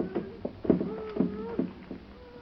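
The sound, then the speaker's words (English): A series of about six dull knocks at an uneven pace, moderately loud, with a faint wavering tone running between them, coming from inside a storeroom. “I heard it. Like a knocking.”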